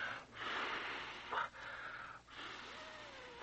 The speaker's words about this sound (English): He's breathing more regularly now.